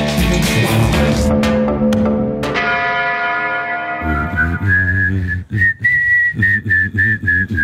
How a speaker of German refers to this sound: ich bin die singende Pfeife aus dem Flux FM Team